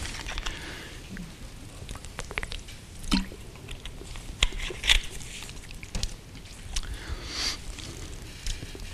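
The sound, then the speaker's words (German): Someone drinks water: soft wet sips and swallowing gulps come in irregular bursts over a quiet background, with no talking. “Eine Grafik fürs Wasser trinken.”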